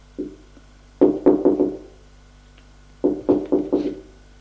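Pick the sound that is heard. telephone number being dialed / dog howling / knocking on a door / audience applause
knocking on a door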